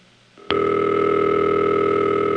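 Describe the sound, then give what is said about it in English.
A telephone ringtone heard down a phone line passed through two third-generation T-Carrier links and two 4As: a steady, loud electronic tone with a buzzy edge that starts abruptly after a brief faint lead-in and holds unbroken to the end, with no talking. “Let's just listen to a ringtone.”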